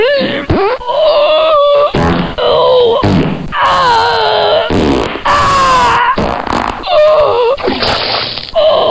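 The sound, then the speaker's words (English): A long, loud string of sputtering farts, the pitch wobbling and bending between raspy bursts, continuing for about nine seconds with no talking. “But I have a big cheesy blaster that I must I must evacuate right away.”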